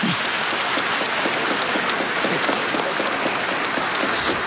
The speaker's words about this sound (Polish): To możemy jeszcze raz oklaski dla tych, co przygotowują.